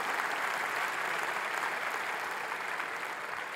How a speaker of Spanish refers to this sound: Sus propósitos para nosotros, si le va a aplaudir, hágalo fuerte, sus propósitos para nosotros no pasarán.